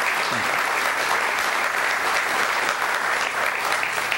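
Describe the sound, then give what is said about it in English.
Steady applause from an audience at IU Methodist Hospital for the healthcare professionals and staff: a dense, even clatter of many hands clapping at a constant loud level for the whole stretch, with a faint low hum underneath. “Let's give all the people that are making a difference in lives every day here a round of applause.”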